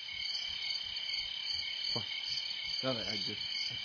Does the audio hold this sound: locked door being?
no